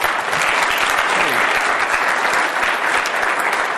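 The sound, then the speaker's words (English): An audience at an evening event applauds steadily to welcome a guest, a dense, even wash of many hands clapping at once that stays loud and unbroken throughout, with no voices rising above it. “If we could just get a round of applause to welcome her.”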